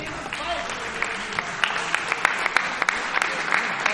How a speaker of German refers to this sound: Herzlichen Applaus.